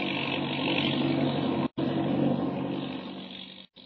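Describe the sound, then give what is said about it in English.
A steady, loud airplane engine drone in flight high over the peaks of the Continental Divide, with snow whirling about the wings and ice on the plane, rumbles on without a break in pitch, cutting out abruptly for a split second twice before resuming. No voices are heard. “High over the wildest and cruelest peaks of the Continental Divide, while snow whirls about the wings and ice holds the plane in its deadly grip.”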